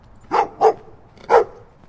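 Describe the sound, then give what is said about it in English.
Guard dogs at a house in West Oakland bark three times in quick, uneven succession, two sharp woofs close together followed by a third after a short pause, loud with no talking over them. “Got some guard dogs.”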